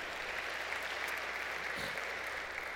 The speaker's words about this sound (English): Now, if that is a time when you wanted to break out into a little applause right there, that's a good one.